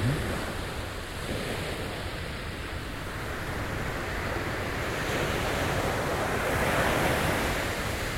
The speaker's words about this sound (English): Kinda, you can kind of hear the wave crashing from left to right. I thought it's windy, but it's not.